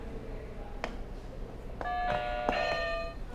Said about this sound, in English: Can you press another buzzer? Again? Yeah. Do you want to press two this time?